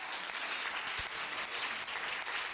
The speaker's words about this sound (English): The Ministry of Education did a phenomenal job, and I think we ought to clap our hands for that.